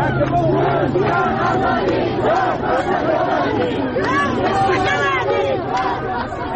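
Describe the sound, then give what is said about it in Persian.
A large crowd shouts and chants slogans against the ruling authorities at the funeral of Kamal Ahmadpour in Mahabad, Iran, in loud, rising and falling waves of many voices, with overlapping cries and a steady roar of massed voices underneath. “در مراسم خاکسپاری کمال احمدپور که روز جمعه دیروز با شلیک مستقیم گلوله ماموران جمهوری اسلامی کشته شد، مردم علیه حاکمیت شعار دادند.”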